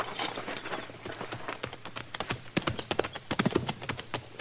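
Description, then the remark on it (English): Hooves of several ridden horses clip-clop in a quick, uneven rhythm, the animals moving together at a steady walk, moderately loud with no talking. “Get on off those horses.”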